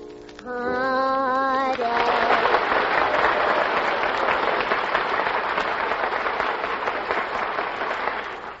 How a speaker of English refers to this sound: Now, as I put my hand over each contestant's head, the studio audience will applaud, indicating their favorites.